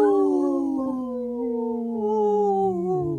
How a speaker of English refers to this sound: supported by Howling for Wolves, protecting wolves for future generations. Howl! Howl!